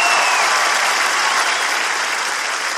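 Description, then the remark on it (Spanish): Loud, sustained applause from an audience, a dense wash of clapping that holds steady for about three seconds with no one speaking over it. “Un fuerte aplauso.”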